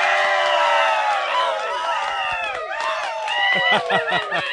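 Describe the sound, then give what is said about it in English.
A gathering of fans on private property in South Carolina, at a live broadcast, lets out a loud, sustained rebel yell, many high voices whooping and hollering together in wavering, rising and falling cries that break into choppy yips toward the end. “the crowd that is here assembled is going to give us a very big rebel yell”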